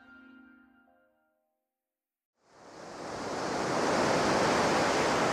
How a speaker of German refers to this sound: Ein sonniger Sommertag mit einer angenehmen Brise. Perfekt für die Urlauber, die sich am Strand und im Wasser tummeln.